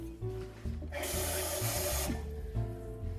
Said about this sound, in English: Next, we're going to grab our saucepan and add enough water so that it reaches about 2 inches in height.